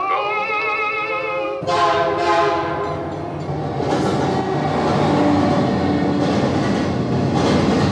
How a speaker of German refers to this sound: Leider, und zu diesem Schluss kommt man am Ende der Vorstellung, befindet sich die Hütte in der Nähe eines Bahngleises. Das Opernerlebnis wird schließlich vom nahenden Zug verschlungen.